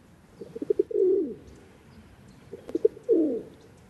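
A rock pigeon coos twice, each phrase a few short soft pulses leading into a longer, throaty rolling note. Low-pitched, with quiet background and no talking.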